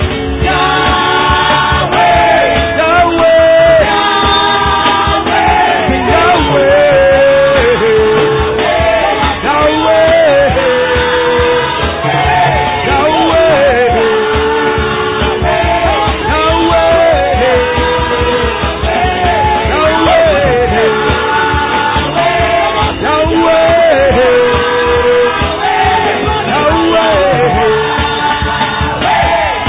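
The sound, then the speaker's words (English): A large crowd shouts and yells in triumphant celebration, many voices overlapping in a loud, continuous roar that stays sustained throughout. “You're not shouting for nothing. You're the victorious one.”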